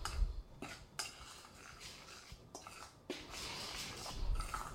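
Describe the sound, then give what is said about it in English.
A utensil scrapes and taps around a bowl as a dry baking mixture, including sea salt, is stirred together, with soft gritty swishes and a few sharper clinks at irregular intervals. “Now just stir that together.”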